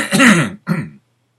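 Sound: cough and throat clearing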